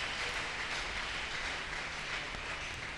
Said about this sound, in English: Clap your hands now. That's it. That's it.